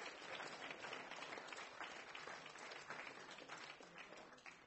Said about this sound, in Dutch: Geef Geert ook een groot applaus. Dankjewel, Geert.